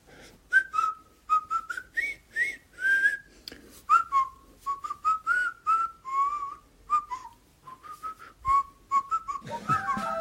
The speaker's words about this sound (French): C'est l'air du pont de la rivière Kouaï. Le sifflement, la petite chanson qui accompagne le film.